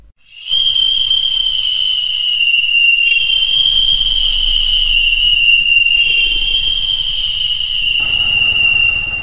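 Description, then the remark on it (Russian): A loud, piercing three-finger whistle holds one steady high pitch for about eight seconds, rich with bright overtones, over a low rumbling background, then cuts off abruptly, as Baba Yaga whistles at a shouting driver in a fairy tale. “И в три пальца как засвищет.”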